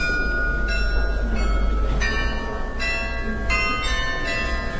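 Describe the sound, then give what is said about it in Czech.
The Loreta church bells ring repeatedly, played back at a science exhibition where visitors can choose among recorded sounds of 288 bells from across the Czech Republic; strikes land at a steady rhythm with long overlapping overtones, at moderate loudness over a low background rumble. “Zvuk, který právě slyšíte, je loreta.”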